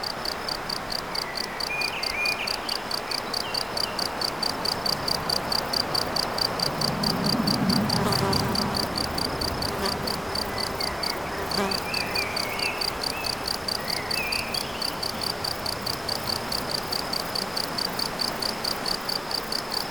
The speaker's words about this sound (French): Non seulement les insectes, les oiseaux, la rivière, et cet insecte-là, n'est-il pas le premier à avoir inventé les sons électroniques?